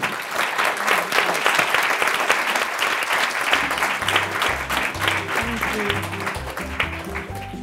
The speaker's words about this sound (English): Could we please give our panel a round of applause?